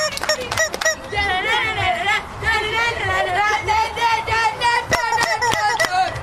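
A chicken clucks and warbles almost continuously, fairly loud, its wavering calls overlapping while sharp knocking clicks cut in now and then.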